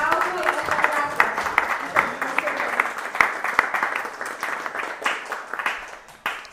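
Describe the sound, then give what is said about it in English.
Sustained applause from a group: dense, crackling claps for several seconds with a few voices mixed in at the start, tapering off slightly near the end, applauding the devotees responsible for bringing the Srimad Bhagavatam to Chile. “Those devotees who are responsible for this, aquellos devotos que son responsables de esto, should be applauded and congratulated.”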